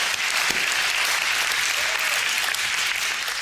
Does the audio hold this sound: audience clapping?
yes